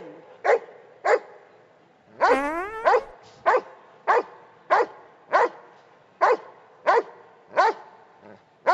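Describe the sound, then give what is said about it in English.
A dog, told to count to three, barks over and over in a steady, evenly spaced rhythm, about a dozen sharp barks, with a brief rising whine-like yelp early on; no one speaks. “That's how old our dog is, too.”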